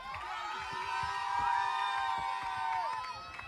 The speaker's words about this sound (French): Du bruit, s'il vous plaît, on les applaudit bien fort.